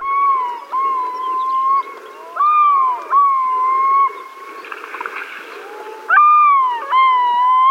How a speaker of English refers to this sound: We're hearing a yellow-billed loon calling on Alaska's North Slope. What does it take to make a recording like this?